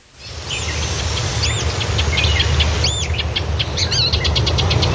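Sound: forest bird song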